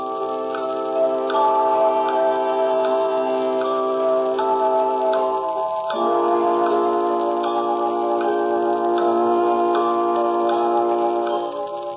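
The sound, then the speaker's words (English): A clock ticks steadily at an even pace, set against sustained, droning organ-like tones that hold and shift midway, with no voices. “The clock will be heard again next week, same time, same ABC station.”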